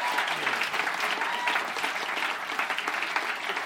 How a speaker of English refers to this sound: a big round of applause. Thank you. Thank you, everybody.